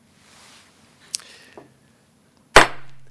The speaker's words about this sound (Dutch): De hamerslag.